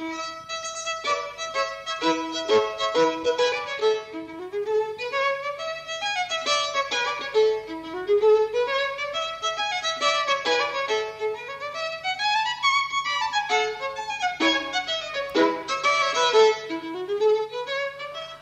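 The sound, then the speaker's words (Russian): A newly bought violin plays a quick, bright melody of running scales that sweep up and down in steady phrases, with rich harmonics and no voices over it. “Инструмент был испорчен, и мне пришлось приобрести новую скрипку. И вы послушайте, как она прекрасно звучит.”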